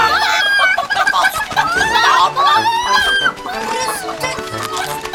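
Agitated hens cluck and squawk over one another in a loud, continuous flurry as they panic and run back and forth, their rapid, rising calls overlapping throughout, without pause.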